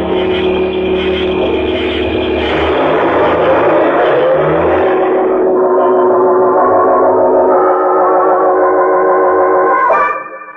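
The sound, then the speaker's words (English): A station wagon's engine runs steadily as the car drives, a loud, continuous droning hum that holds for about ten seconds before dropping off slightly at the end. “Yeah, that station wagon. Hop in.”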